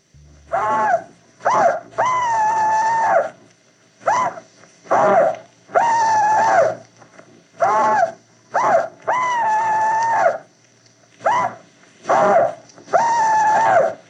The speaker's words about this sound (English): Confederate veterans, Rebel Yell.